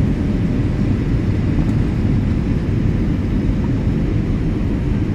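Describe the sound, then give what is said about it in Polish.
Steady, dense low roar inside a Boeing 787 Dreamliner cabin as it accelerates down the runway for takeoff, a constant rumbling wash of engine and airflow noise with light vibrations and no voices. “jesteśmy już na pasie, zobaczymy, jak przyspiesza tutaj. Ten oto Dreamliner. No i już czekamy i zaczyna się powoli dziać. Lekkie wibracje. No i już mamy przyspieszanie.”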